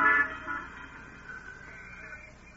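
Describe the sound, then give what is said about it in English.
An arriving bus sounds its horn, one loud, bright honk at the start, then its tone lingers and fades over a low engine rumble. No one speaks. “There's my bus at last.”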